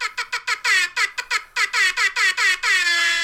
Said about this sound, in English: Whoa, shit. Is it 2015 again? You with the fucking air horn.